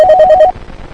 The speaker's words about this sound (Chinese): 先这样，我这儿来电话。